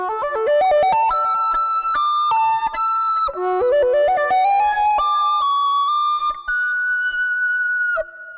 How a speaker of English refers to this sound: Lead sound hard rock with phaser delay.